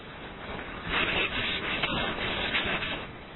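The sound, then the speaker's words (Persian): A board being wiped clean: a steady, brushy rubbing that starts after a brief quiet moment and continues in overlapping swipes for a couple of seconds, with no one talking. “تخت پاک کنم اکو؟”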